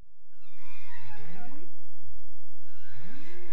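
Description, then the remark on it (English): Bowhead whale calls recorded with an underwater microphone at Utqiagvik, Alaska, from whales passing on their way north: moaning, swooping tones that rise and fall, one long call followed by a shorter rising whoop, over a low watery rumble with no voices. “These calls, recorded with an underwater microphone, were from whales swimming there last month.”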